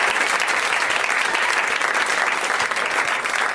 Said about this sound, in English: Thank you to my guests, Adam Pally, Gillian Jacobs, and Werner Herzog. At this point, everyone applauds.